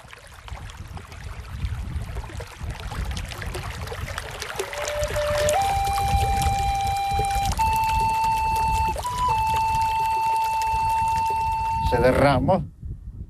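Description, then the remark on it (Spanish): A steady rush of water from a river flowing down from Magdalena Ocotlán fills the whole recording, with indistinct voices and a sustained whistling tone that steps upward partway through. “De hecho, este río aquí donde estamos ahorita, pues este río viene directamente de la parte de que es de Magdalena Ocotlán, a donde ha sido afectado, porque ya ahorita, en el 2018 hubo un derrame ya de la presa de Jales.”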